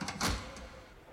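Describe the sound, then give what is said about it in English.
A heavy stainless steel door, like the door to a large walk-in freezer, swings open beside a Coke machine: a quick latch click, then a deep clunking thud, followed by a fainter knock and a brief low rumble fading out. “this stainless steel door that looks like it would be the door to a large walk-in freezer.”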